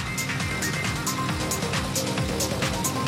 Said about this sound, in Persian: موتور با مکش طبیعی 7 لیتری LS7 V8 جنرال موتورز، نیروی برابر با 505 اسب بخار و 652 نیوتن متر گشتاور به ماشین میده که نه در داخل و نه در بیرون ماشین مشکلی برای شنیدن صداش نداریم.